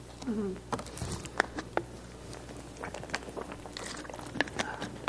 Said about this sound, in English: Excuse me a second while I get some water. My throat's crackling.